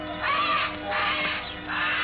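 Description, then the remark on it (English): Harsh, agitated squawks from disturbed birds in old man Kelso's huge aviary at one corner of the house, in three bursts over about two seconds, several birds calling at once, loud with no talking. “Something had disturbed the birds.”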